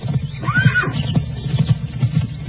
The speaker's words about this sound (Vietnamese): Mới nảy ra ý niệm đó, liền nghe tiếng người ăn cướp cưỡi ngựa đi qua.